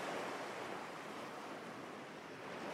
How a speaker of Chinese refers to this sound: 你的双脚被一阵阵凉爽的海浪轻柔冲刷着，十分惬意。一波波的海浪温柔地拍打在岸上